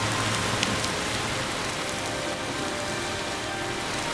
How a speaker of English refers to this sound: Here, we visit the 4700 block of Liberty Heights in northwest Baltimore. I haven't seen it rain this hard in a long time.